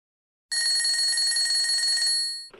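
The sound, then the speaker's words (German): A telephone rings for a phone call in one sustained burst of rapid bell trills, loud, lasting about two seconds before cutting off, with no one speaking. “Ein Telefongespräch mit Frau Müller.”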